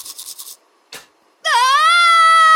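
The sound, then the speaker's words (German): A person brushing their teeth lets out a loud, sustained high-pitched scream over bleeding gums that holds steady for over a second, preceded by quick rhythmic toothbrush scratches and a brief swish. “Mit Schreien stoppst du kein Zahnfleischbluten.”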